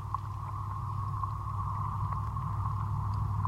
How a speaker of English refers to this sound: You can also hear traffic going by.